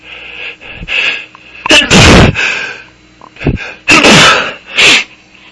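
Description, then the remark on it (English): A series of loud sneezes induced by pepper tossed up in a cloud, three or four forceful bursts spaced a second or so apart, with quick breathy inhales and sniffles between them. “Where you like, toss the pepper up in a cloud rather than directly inhale it, and oh my god. It's having a much more dramatic effect than my normal attempts do.”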